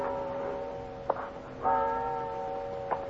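A large cathedral clock bell in the bell tower on the Stubelplatz square in Hamburg tolls after midnight with a sustained, humming ring, while a few sharp mechanical ticks click at irregular intervals beneath it. No voices.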